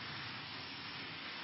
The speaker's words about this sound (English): You find it very pleasurable to hear the rain? It can be, you know, if you put your attention if you change your views, yeah. But for most people it's disturbing.